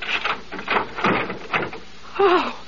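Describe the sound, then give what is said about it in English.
A door eases open a couple of inches on a chain lock, with a few rattling clunks from the chain followed by a brief creaking hinge squeal, fairly quiet, no voices. “You got a chain lock, lady. Just open the door a couple inches.”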